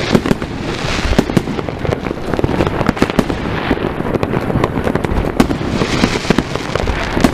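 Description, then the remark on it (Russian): A dense, continuous barrage of fireworks bursting in the dark at night, with rapid overlapping pops and crackles over a steady rumble. Loud and unbroken throughout, with no voices. “Должно быть видно только салюты, в принципе.”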